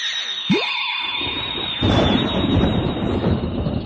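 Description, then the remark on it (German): A brief magical whoosh is followed by a loud, rolling rumble of thunder that swells and sustains to the end, with a thin high ringing tone running throughout. No one speaks. “Ene, mene, Kindersitz. Ich will Donner, ich will Blitz.”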